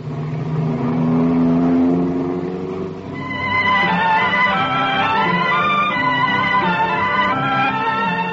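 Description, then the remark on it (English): A car engine runs steadily at a low idle, then revs up into a higher, strained whine that holds loud until the end, with no voices. “I waited in the car”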